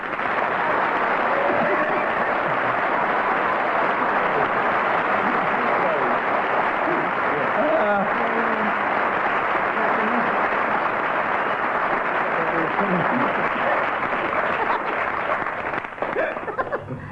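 Sustained TV game show studio audience applause for two contestants at a steady, loud level for about seventeen seconds, with a few scattered shouts and whoops mixed into the clapping before it starts to thin at the end.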